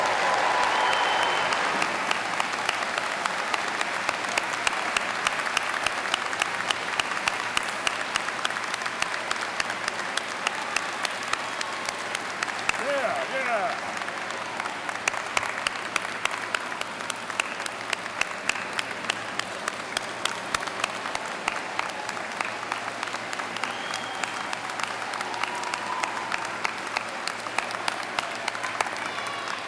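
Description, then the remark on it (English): A crowd applauds the families and friends steadily for about half a minute, dense overlapping claps forming a loud, even wash of sound with no voices standing out. “So let's give a round of applause to the families and friends.”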